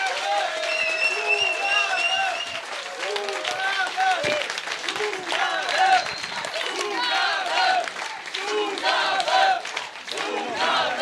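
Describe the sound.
A concert crowd cheers and shouts loudly over steady applause after a band's song, a dense wash of many voices and clapping that holds strong for about eleven seconds.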